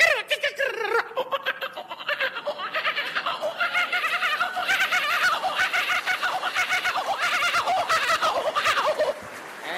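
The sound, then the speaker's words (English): At Josh Frydenberg's campaign launch, a man imitates a kookaburra call, a loud, continuous cackling laugh with rapid rising and falling hoots, sustained for several seconds. “You know, Liberals will win because of Josh, but I'll just finish off with a bird call or two. Kookaburra.”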